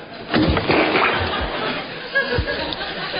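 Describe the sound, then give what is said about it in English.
A heavy, wet splash and squelch as Baldrick lies down in the wet mud to play a nun, followed by a few softer sloshing shifts and a dull thud. “Baldrick, you lie down in the mud and be the nun. I'm not lying down there. It's all wet.”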